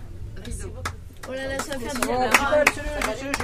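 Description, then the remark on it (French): A handful of sharp claps at an uneven pace, applauding children after their show, mixed in with a voice speaking or vocalizing over a low background hum. “C'est moi qui vous applaudis.”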